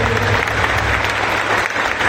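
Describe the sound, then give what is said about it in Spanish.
Sustained audience applause for all the clubs, a dense, steady wash of many hands clapping at a fairly loud, even level throughout, with no speech over it. “Realmente quiero pedir un fuerte aplauso para todos los clubes.”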